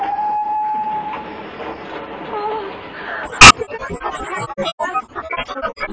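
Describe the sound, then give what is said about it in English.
A train rumbles along steadily through a long cutting, with embankments rising on either side, then a sudden loud whoosh hits as it plunges into a tunnel, leaving a choppier, roaring clatter. “The embankments are rising either side of the train. Oh, indeed they are. There's a long cutting, then in we go.”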